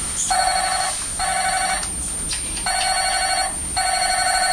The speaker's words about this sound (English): That's a very nice mobile phone. And telephone's still on. Oh, it rings as well, isn't it?